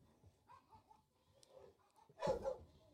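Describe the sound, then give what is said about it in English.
A household's pet dogs whimpering and whining softly in the background, then a louder burst of barking near the end, with no one talking. “So if you're hearing the dogs being all crazy, I apologize.”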